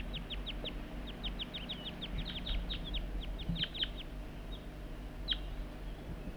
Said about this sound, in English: And that's bird 4-3, and the wild birds are right nearby. I heard the juvenile giving begging calls right near the net site somewhere. The wild birds responding to loud calls of bird 4-3.